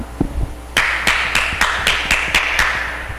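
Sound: hand clapping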